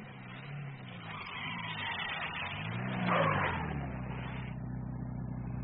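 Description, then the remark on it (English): A staff car's engine revs and grows louder as it drives up toward a grounded Lysander plane, then eases off and settles into a steady idle as it pulls to a halt within 50 meters of the plane. No one speaks. “The staff car came to within 50 meters of the plane and then pulled to a halt, the driver sensing that all was not well.”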